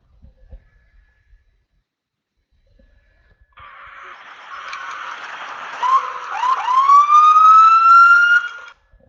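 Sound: police car siren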